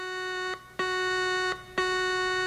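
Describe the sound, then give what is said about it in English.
A warning alarm blares through subterranean corridors in the distance, in long, buzzing electronic blasts, repeating steadily with short gaps between them, a harsh droning tone with no voices. “In the distance, a warning alarm blared through the subterranean corridors.”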